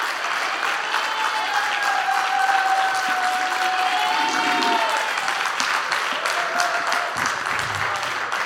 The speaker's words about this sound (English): Thank you. You honor me, as I always say when I'm applauded at the beginning. You'll really bless me if you applaud me when I'm done.